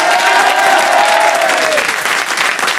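Loud, dense audience applause with cheering, steady clapping throughout, and a few whoops rising above it during the first half.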